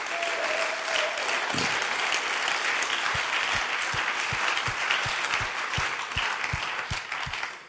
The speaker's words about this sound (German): herzlich willkommen und gebt ihm einen donnernden Applaus, dem guten Mann.